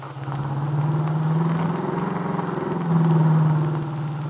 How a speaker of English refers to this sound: Now, with Del at the wheel of her car, the nightclub owner and the young entertainer turn onto the main highway which leads to Chicago.